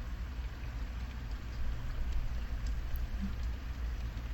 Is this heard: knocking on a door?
no